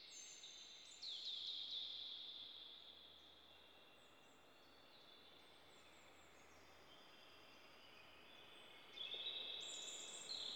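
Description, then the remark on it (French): Birds sing outdoors in two short bursts of high, bright chirping, one near the start and one near the end, over a steady hiss of open-air ambience. No one speaks. “Écoutez maintenant le chant des oiseaux.”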